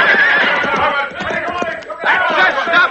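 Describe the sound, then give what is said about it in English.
Horses whinny in high, wavering cries, first at the start and again near the end, over a busy clatter of hooves and a shouting crowd as a sheriff's posse ropes riders and drags the Cisco Kid from his horse, loud throughout. “Now drag that bastard Cisco kid from his horse.”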